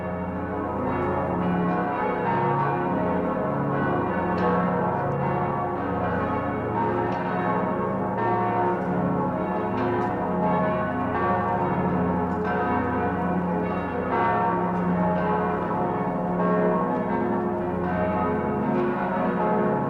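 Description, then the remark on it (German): The large bells of Passau Cathedral in Germany ring continuously in a dense, overlapping peal, carried by the wind, their deep resonant tones blending into a steady wash of sound that stays loud and full throughout, with no talking. “Der Wind trägt den Gesang der Passauer Domglocken über die Hügel um die Stadt und die Flüsse hinauf.”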